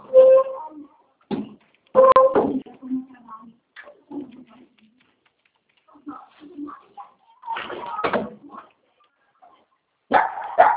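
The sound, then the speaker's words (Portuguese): A mongrel dog barks in short, sharp bursts, a couple of quick barks at a time with quieter gaps and softer whiny sounds between them. “Quieto, vira-lata. Vai deitar no seu sofá, vai.”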